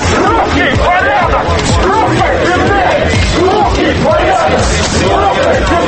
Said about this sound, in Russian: Так шумно в Кирове обычно проходит русский марш, организованный движением против нелегальной иммиграции.